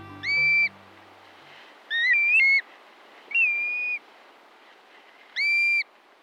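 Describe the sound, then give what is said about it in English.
A black-bellied plover gives four clear, plaintive whistled calls, each slurred and about half a second long, spaced roughly evenly over a steady background hiss. “Here's one shorebird that breeds in the Arctic, the black-bellied plover.”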